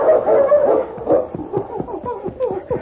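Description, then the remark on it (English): A dog named King whines in a drawn-out, tonal cry, then breaks into a quick run of short, sharp yips and barks, fairly loud, on the edge of a ravine in falling snow, with no one talking. “King whined and ran back and forth on the edge of the ravine.”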